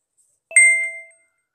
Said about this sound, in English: After you take out all the screw, remove the SIM tray.